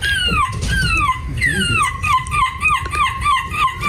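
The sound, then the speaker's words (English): A voice imitates a seagull, letting out a rapid, continuous run of high, falling, loud squawks with no pause between cries. “How do I do a seagull impression?”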